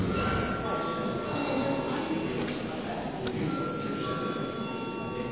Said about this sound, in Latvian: Lūdzu zvanu.